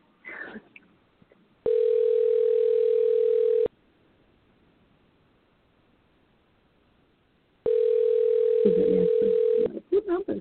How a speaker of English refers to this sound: All right, we're dialing. We're dialing. Uh-oh, it's ringing. It's ringing.